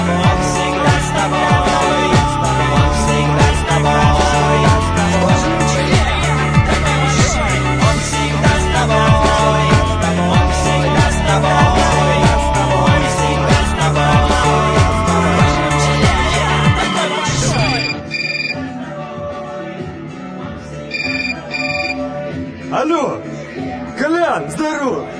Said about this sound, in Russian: Блин, класс, песня вообще, как прям про меня и мой телефон. Да, да, он всегда со мной.